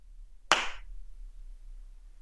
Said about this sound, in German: Jetzt darfst du klatschen.